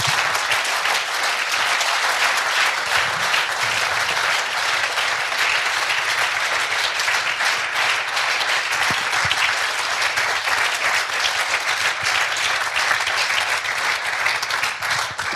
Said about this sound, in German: Ich darf Sie nochmal um einen ganz kräftigen Applaus für unseren Bürgermeister Dr. Michael Ludwig ersuchen.